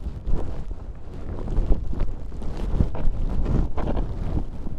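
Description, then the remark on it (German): Strong, gusty wind roars and buffets the microphone throughout on a foggy, windy morning during a snowshoe hike on the Seebug, the second-highest Feldberg summit, a steady low rumble swelling and easing in uneven surges, with no voices or other clear sounds. “An einem ungemütlichen, neblig-windigen Vormittag treffen wir Feldberg-Ranger Achim Laber zu einer Schneeschuhwanderung”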